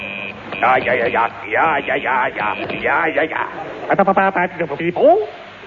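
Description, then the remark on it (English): A voice imitates Morse code transmission beeps, a rapid run of sung, buzzy tones in short bursts and longer dashes, close and fairly loud, with no other sound behind it. “Quick, I'll get Von Heidelberger on the Morse code.”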